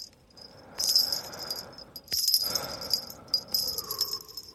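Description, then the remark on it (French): Small bells attached to a hammer jingle in several shaken bursts, bright, high and metallic, with a shimmering ring that lingers briefly between clusters of jangling. No voices. “Écoutez le son, l'écho des grelots, leur tonalité. Vous entendez leur mélodie?”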